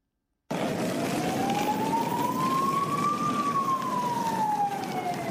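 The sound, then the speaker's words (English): A single emergency vehicle siren wails in a slow rising and falling sweep over steady street traffic rumble on the streets of Brussels in the morning, continuous, with no voices. “The wailing of sirens were all that could be heard on the streets of Brussels this morning.”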